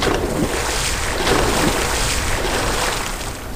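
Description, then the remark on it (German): A loud, steady rush of wind and churning ocean waves surrounds a rocking ship at sea in a strong storm, a dense roar that swells slightly and fades a little at the end, with no voices. “Das Schiff begann zu schwanken. Ihre Eltern wollten sie festhalten, damit sie nicht über Bord gingen.”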